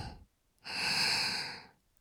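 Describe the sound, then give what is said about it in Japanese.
A single long, breathy exhale right up against the microphone, soft and airy with a smooth rise and fade, preceded by a faint brief breath and surrounded by quiet. “さっきより吐息多めにしてあげようか。”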